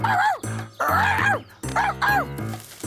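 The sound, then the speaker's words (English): A dog barks repeatedly as a signal that someone is approaching, a quick run of loud, yelping barks and yips with a whiny, tonal edge, one tumbling into the next. “And this time, I'll bark when I see him.”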